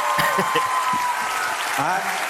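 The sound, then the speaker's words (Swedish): Steady audience applause, dense and continuous hand claps filling the whole stretch at an even loudness, with some voices faintly mixed in underneath. “Fortsätt klappa.”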